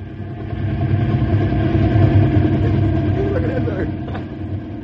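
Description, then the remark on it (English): A helicopter used to herd cattle on a ranch drones steadily and loudly, a deep, continuous rumble with a throbbing low pulse that holds for the whole stretch without pause. “don't they use the helicopter to herd cattle with?”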